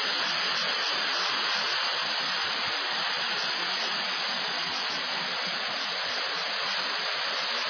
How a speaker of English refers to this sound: Right now, we're as close as we possibly can get without endangering our lives to this waterfall. I can't hear much of anything other than the sound of those waters.